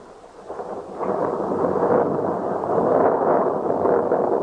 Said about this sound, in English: Lightning gleamed and the thunder rattled loudly through the narrow streets.